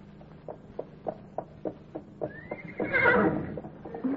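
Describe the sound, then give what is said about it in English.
Steady clip-clop of hooves in an even rhythm as horses are ridden in Oklahoma, then a horse lets out a loud, rising whinny over the continuing hoofbeats. No one speaks. “That's what they're doing down in Oklahoma, Sergeant. Riding the horses.”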